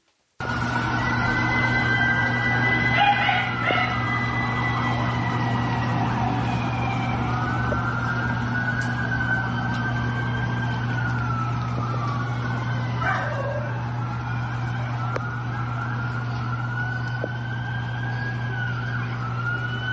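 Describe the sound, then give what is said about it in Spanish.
Several emergency vehicle sirens wail continuously in Guanajuato during attacks in which vehicles, trucks and businesses are set on fire, their rising and falling tones overlapping over a steady low hum of traffic, with no talking. “Eso en Guanajuato, ahí estábamos escuchando las sirenas y viendo cómo incendian unidades, cómo incendian camiones, cómo atacan comercios.”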